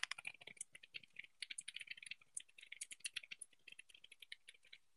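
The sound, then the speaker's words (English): Rapid, steady typing on a custom mechanical keyboard, with crisp clacky keystrokes in quick irregular bursts and no voices. “this keyboard sounds nice though.”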